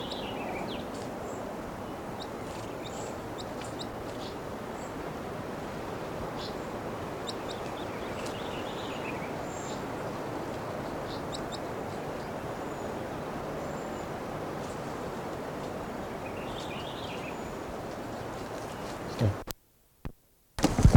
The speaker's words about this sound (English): According to one of the wild birds just gave a song phrase. There's one perched on the approach perch right now. And it just flew up.